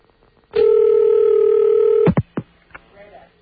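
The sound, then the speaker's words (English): A single steady electronic telephone ringing tone sounds down the line for about a second and a half on a call from WUSB Radio, Stony Brook, New York, to a phone in Albuquerque, New Mexico, then stops abruptly, followed by a few brief clicks and faint line noise. “phone ringing in Albuquerque”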